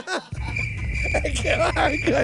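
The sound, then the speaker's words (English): A steady, high cricket chirp runs continuously beneath a person talking, the insect trill staying faint but constant throughout. “You have a cricket sleeping?”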